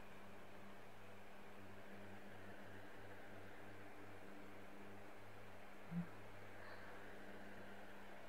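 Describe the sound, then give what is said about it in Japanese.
A quiet, steady electric fan whirs continuously on a hot day, a low motor hum beneath soft airy noise, with one faint click partway through and no voices. “エアコンの調子悪いみたいなの。扇風機で我慢してね。”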